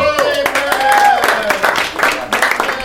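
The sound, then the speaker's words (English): An audience claps and cheers in a dense, sustained burst, with quick overlapping hand claps under rising whoops and shouted voices, staying loud for a few seconds. “What if no one knew Parenthood, but they were cheering for September 11th?”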